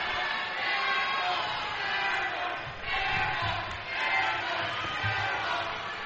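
The North crowd at a basketball game jeers a player at the free-throw line, a dense, steady roar of many voices that keeps swelling and surging in waves, with no single voice standing out.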